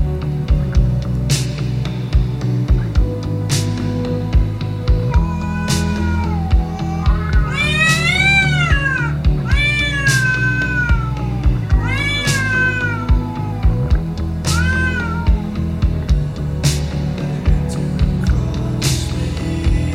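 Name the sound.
cats meowing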